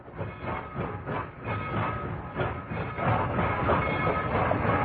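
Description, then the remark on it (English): A train rumbles steadily along the rails with a rhythmic clickety-clack, loud, its low roar and metallic rattle filling the whole stretch with no voices; the hellbound train of Robert Bloch's story The Hellbound Train. “Martin, the new brakeman on that hellbound train.”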